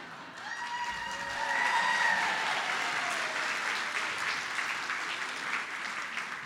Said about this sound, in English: You know, and as a newcomer, you also need to realize something. We clap for everything here.